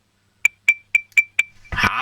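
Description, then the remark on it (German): A six-year-old child from Vorarlberg taps a spoon on a drinking glass five times in a quick, even ding-ding rhythm, each bright high clink ringing briefly, before a loud rush of broad noise takes over. “dann machst du mal mit dem Löffel so am Glas ein Ding-Ding-Ding-Ding-Geräusch.”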